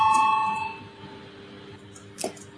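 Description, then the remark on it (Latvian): An electric parliament voting bell, rung before a vote on a proposal, sounds with a steady, bright metallic tone that fades out within the first second, followed by quiet noise and a brief soft clack near the end. “Lūdzu zvanu, balsosim par 10. deputātu Stepaņenko iesniegto priekšlikumu.”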